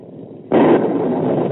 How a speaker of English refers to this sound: Naturally, you were listening to the thunder. Is that truly the voice of God, old man?